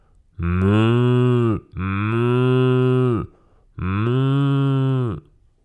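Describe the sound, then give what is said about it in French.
A cow moos three times in a row in fog, each call long and loud, with short pauses between them and no other sounds around. “Une vache surgit du brouillard.”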